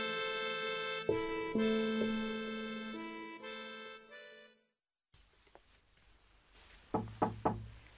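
Soft piano-like music plays, falls silent, and after a brief pause three quick, firm knocks on a door sound in a steady rhythm over a faint background hum.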